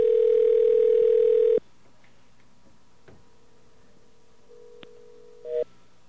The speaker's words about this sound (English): All right, let's... The other phone's ringing again, so...